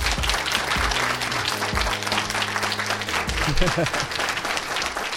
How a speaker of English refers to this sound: Can we have a round of applause for them, please?